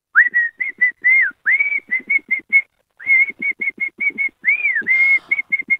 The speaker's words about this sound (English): Well, I'm going to do the whistle song, because it's obvious. Oh, of course. But I'll whistle it.